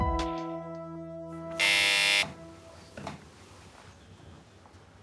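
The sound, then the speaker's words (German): A doorbell buzzer sounds: a steady, humming harmonic tone for over a second, then a short, loud, harsh buzz, followed by faint clicks and low background noise. No one speaks. “Der Golf gehört nicht mir, dann müssen Sie bei Springmann läuten.”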